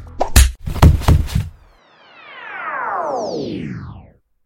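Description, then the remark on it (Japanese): A flurry of loud punching whacks lands in quick succession, followed by a long, sliding descending whine that fades out. No one speaks. “あの時の姉子のパンチはしびれたな。”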